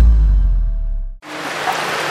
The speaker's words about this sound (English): Rain is falling on the green hills of West Barrawacho in the southwest of Ethiopia.